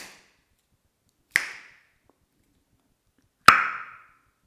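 Two sharp, crisp finger snaps, spaced about two seconds apart, in a room with almost nothing on the walls, recorded with a red Smartlav omnidirectional lavalier microphone worn on a shirt buttonhole; each snap trails off in a brief ringing echo of the bare, reverberant room. No one speaks.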